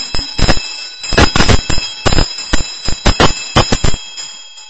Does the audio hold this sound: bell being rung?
yes